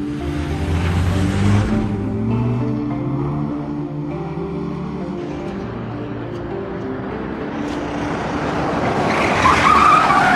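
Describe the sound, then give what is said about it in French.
A police car's engine revs loudly and pulls away, tires skidding and squealing on the road, with a sharp high screech rising near the end. No one speaks. “On y va, je vais chercher la voiture.”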